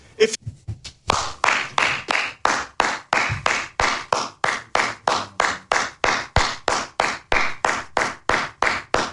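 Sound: one person clapping hands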